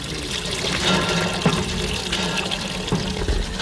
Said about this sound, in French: Je pompe de l'eau pour les vaches, je la mets dans cette vasque, je la mélange avec du fourrage et je leur donne.